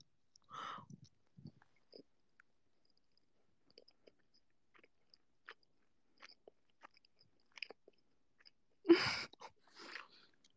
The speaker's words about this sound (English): Chewing ASMR. I'm really curious about the sound quality now. I didn't expect you guys to be able to hear me chewing. Oh my goodness.